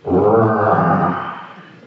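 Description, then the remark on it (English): A tiger gives one loud, deep roar, a rough sustained bellow that holds steady for about a second before fading away, with no talking over it. “Just like if a person is walking through a forest and he is walking very peacefully and happily, and suddenly he hears a roaring sound in the forest.”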